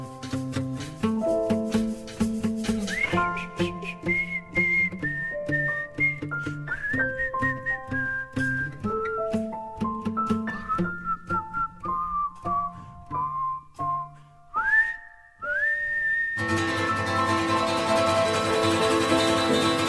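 A bright, clear whistled melody rises and falls in sustained notes over steady instrumental backing, prominent and close, before giving way to a noisier, busier musical passage near the end.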